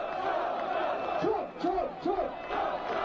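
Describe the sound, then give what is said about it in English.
A large crowd at a Trump rally in England chants "Trump" in unison, a loud repeated two-beat shout rising and falling about three times over a constant roar of many voices. “It's a pretty big crowd, dude.”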